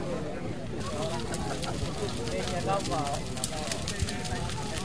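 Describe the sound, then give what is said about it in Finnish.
A bonfire on a shore crackles with a steady stream of sharp pops and snaps, some louder than others, over a continuous murmur of voices. Sunny, almost cloudless, calm weather; the bonfire is not yet fully alight and is about 30 metres away. “Jos menen nyt vähän lähemmäksi, niin voitaisiin kuulla tuota kokon rätinää tässä seuraavaksi.”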